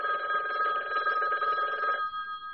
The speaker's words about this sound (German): Oh, das Telefon.